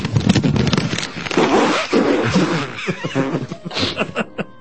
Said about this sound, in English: Why don't you blow your nose again? All right. Thanks a lot.